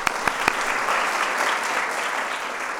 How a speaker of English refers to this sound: I also want to thank PBS and WGBH Boston for their tremendous generosity in sponsoring our Kids State Dinner and our Healthy Lunchtime Challenge. So I want to give them another round of applause.